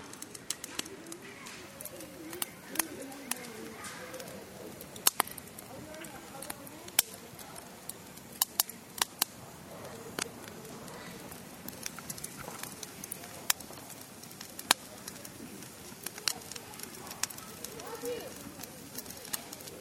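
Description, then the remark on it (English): A campfire burns steadily, popping and crackling with sharp, irregular snaps over a low, continuous rustling hiss, with occasional louder pops standing out. “Just going to sit here and enjoy the fire.”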